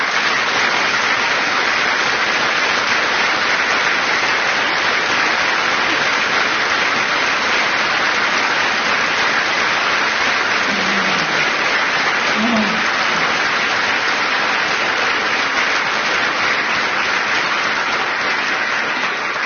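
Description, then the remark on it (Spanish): Sustained audience applause, a dense steady wash of many hands clapping, loud and even throughout with no pauses, a faint voice briefly audible beneath it. “Alguien va a tener que recibir un aplauso.”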